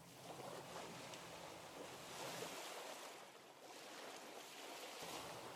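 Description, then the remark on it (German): Steady ocean surf washes continuously onto a shore, a broad hissing roar that swells and eases gently with the waves, with no voices present. “Eine ruhige, gleichförmige Atmung, die sich dann vom Rhythmus der Wellen anpassen.”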